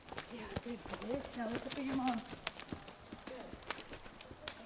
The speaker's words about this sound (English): Grace smiles at the speed as she leads the horse in quick turns.